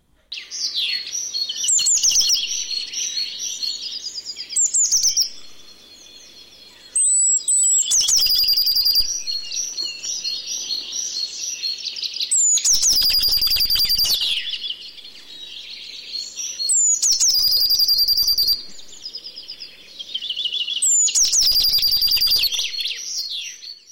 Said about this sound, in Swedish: Ja, det var blåmesens sång det där.